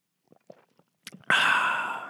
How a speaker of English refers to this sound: Okay, well, we're going to take a sip of this high-quality H2O, wet the whistle.